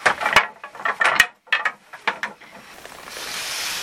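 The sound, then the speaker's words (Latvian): A weaving loom clatters as a weaver works the treadle, lays a strip of old textile into the shed and beats it in with the beater: sharp wooden clacks and knocks in an uneven rhythm, several strong thuds among lighter rattles, then a soft steady rustling hiss takes over at the end. “Vispirms sēžas pie stellēm, nomin paminu, atvērumā liek lentīti un ar sistavu to piesit.”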